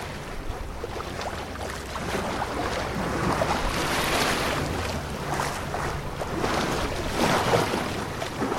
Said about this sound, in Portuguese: Pelas 4 da tarde, eu já estava junto ao barco na marina. Barco ancorado com a passadeira montada e a dançar ao ritmo da ondulação.